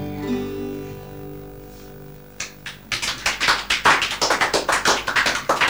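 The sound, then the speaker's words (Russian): A sustained musical chord ends a song and fades, then scattered claps begin and quickly swell into steady, loud audience applause with sharp, rapid hand claps. “Не знаю, достойна ли эта песня таких аплодисментов.”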